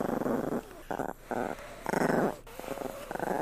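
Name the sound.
dog growling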